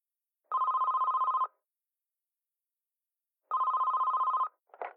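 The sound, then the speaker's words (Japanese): A telephone rings in two trilling bursts, each about a second long with a pause between, clear, followed by a brief faint sound as the ringing stops. It is a call to the firm CD Boeki. “第五章、四、電話、かける。”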